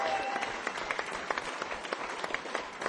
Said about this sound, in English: Because without you coming along, we wouldn't be playing here tonight. So give yourself a big round of applause.